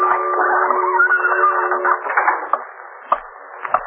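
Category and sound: household object, clock ticking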